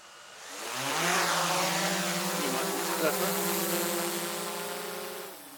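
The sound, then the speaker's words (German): A camera drone, flown by a pilot to photograph from above how far green dye spreads in the water of Heiner See: its rotors buzz in a steady, insect-like whine that climbs in pitch as it spins up, then holds an even, droning tone for several seconds before easing off at the end. “Ein Drohnenpilot ist auch dabei, der aus der Höhe fotografieren soll, wie weit die Farbe sich ausbreitet.”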